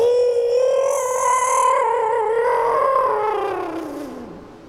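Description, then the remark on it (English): A single long, shrill owl cry rings out, loud and wavering for several seconds before sliding downward in pitch and fading at the end, with no other sounds around it. The owl, Tootsie, perched on a sugar maple, cranes its neck to the sky and screams in rage. “He took a deep breath and knew a single restful moment of slumber before Tootsie craned his neck to the sky and screamed an owl's cry of pure rage.”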